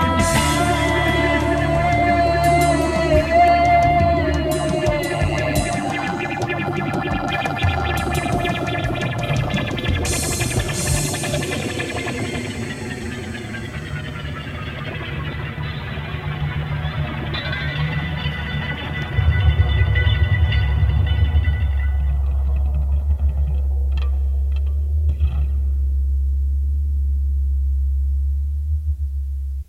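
An experimental electronic song plays from a cassette released in 1995, dense layers of warbling tones and distorted textures gradually thinning out until a loud, steady low drone dominates the final stretch, with no voices.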